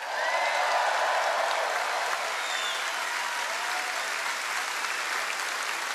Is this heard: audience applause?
yes